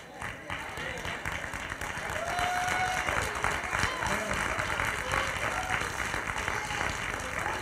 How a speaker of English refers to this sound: Now I'm gonna ask y'all one more time. Do you have God's favor? Anybody got God's favor? You ought to get on your feet and give God a hand clap of praise.